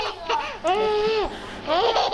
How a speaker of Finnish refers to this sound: Katsotaan tämä yhdessä nyt. Lähtee. Siinä vauva nauraa.